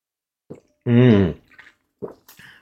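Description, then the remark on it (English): Drinking water: a wet sip and a swallow, then a loud, satisfied voiced 'ahh', followed by a few quieter mouth clicks and a short breathy exhale. “Oh my God, this water is delicious today.”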